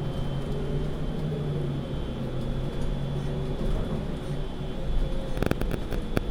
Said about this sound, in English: So that little buzzer sound is just a sign to tell the driver that there's a bus stop.